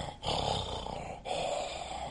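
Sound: imitated wheezing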